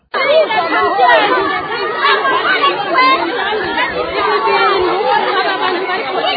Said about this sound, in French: Ce sont les cris de détresse des habitants de Buterere 1 qui venaient d'assister à une destruction méchante des champs et cultures d'environ 1 hectare dans son quartier par des jeunes Imbonerakure sous l'ordre du chef de quartier.